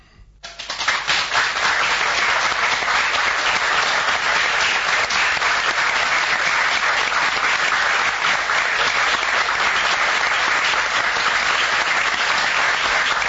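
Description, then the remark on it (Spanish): Enthusiastic theatre audience applause, including many psychology students, at the end of the play El peor día de Freud at Telón Rojo; a dense, steady roar of many hands clapping that swells in within the first second and stays loud and sustained to the end, with no voices. “Había estudiantes de psicología, un montón, una clase que se ve que fue a ver la obra y la terminaron festejando con un aplauso de lo más efusivo.”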